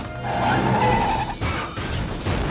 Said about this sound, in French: I have an idea. What? Handbrake turn. You know how to do that, Dad? Hang on!